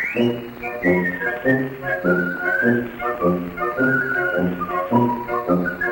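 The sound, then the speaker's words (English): A bright whistled melody from a popular music recording glides and trills over a steady, rhythmic band accompaniment of repeated chords, loud and continuous for the whole stretch, with no talking. “Once whistling found its way into popular music,”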